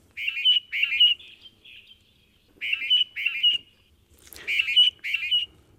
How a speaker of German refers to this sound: in seiner ersten Meldung geht es um den Paarungsgesang von Darwin-Finken